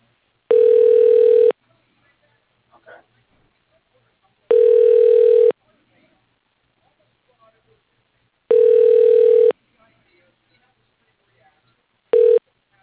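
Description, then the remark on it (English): A telephone ringback tone sounds while a call to Cargo Construction is transferred to an extension, in steady one-second bursts repeating about every four seconds with quiet gaps between, the fourth ring cut short. Clear, with no talking. “Please hold while I try that extension.”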